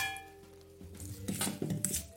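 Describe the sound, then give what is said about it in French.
Drained, rehydrated seaweed, wrung out in a colander, is dropped into a mixing bowl while making seaweed butter, giving a few soft, wet thuds mixed with light clinks of the bowl and a utensil. No one speaks. “Je les mets dans mon cul de poule.”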